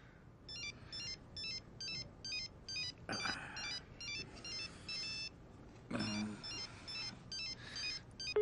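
A telephone rings with a rapid electronic warble, repeating in short, evenly spaced bursts before an answering machine picks up. It is fairly loud, with a couple of brief rustling noises partway through and no one talking.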